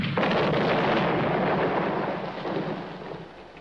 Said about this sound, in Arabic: هيا هيا. استعدوا، أطلقوا. أطلق النار.